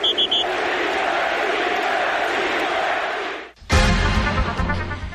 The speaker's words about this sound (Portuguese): E como você acabou de ouvir o apito